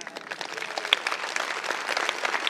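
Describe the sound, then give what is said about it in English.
A crowd applauds steadily, many hands clapping in a dense, even patter that holds for a couple of seconds at moderate volume. “Thank you. I applauded as well, because you can't figure those things out, but a greater mind can.”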